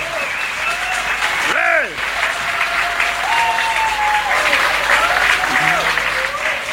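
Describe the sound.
Sustained audience applause for a singer, a dense steady clatter of many hands clapping at an even loudness throughout, with scattered cheers and whistle-like voices rising above it.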